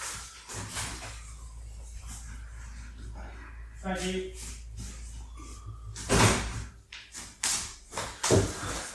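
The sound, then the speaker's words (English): A door is opened and shut as something is delivered, with a few sharp knocks and thuds close together near the end, while faint voices murmur in the background. “someone at the door”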